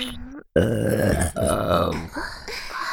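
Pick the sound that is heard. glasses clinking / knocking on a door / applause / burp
burp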